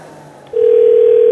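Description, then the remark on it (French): A telephone ringing tone cuts in abruptly about halfway through as a phone call is placed, a single steady pure note that is loud and holds unbroken to the end. There is no talking over it. “La preuve au téléphone avec un exemple d'imposture digitale en chair et en os.”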